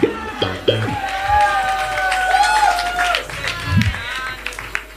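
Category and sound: crowd, audience applause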